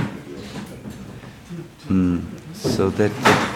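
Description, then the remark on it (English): A door or window at the back of a room is pushed open with a soft rattle and knock of hardware, followed by people talking. “So could, is it good if you open the door maybe? Yeah? Open the windows in the back.”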